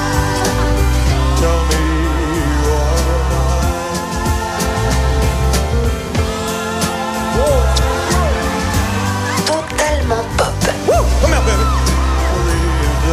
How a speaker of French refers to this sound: lorsqu'il était revenu sur scène à la fin des années 60, notamment à Las Vegas, il en avait fait un moment fort de son spectacle, presque un sketch, au cours duquel il s'amusait beaucoup à faire crier les filles.